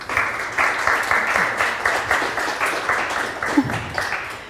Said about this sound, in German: begrüßt vielleicht unsere Gäste mit einem herzlichen Applaus. Danke.